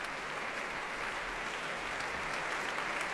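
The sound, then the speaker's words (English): Steady, dense applause from a large concert audience and orchestra welcoming a pianist back onto the stage, a continuous wash of many hands clapping at even loudness with no voices above it. “Warmly welcomed back and applauded by orchestra as well as audience.”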